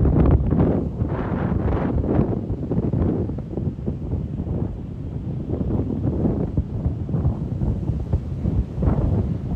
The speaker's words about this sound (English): That beautiful surf sound coming right up to my sneakers. Really beautiful as the waves curl onto the sand. Daytona Beach, Florida.